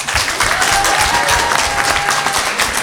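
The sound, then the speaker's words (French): A large audience applauds steadily, welcoming a guest presented as Gregor Samsa from Kafka's The Metamorphosis; a dense wash of many hands clapping at once, loud and sustained throughout without any voices rising above it. “Je ne veux des applaudissements que pour Grégor.”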